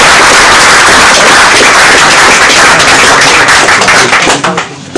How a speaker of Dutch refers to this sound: Applaus voor Lolle Demmer.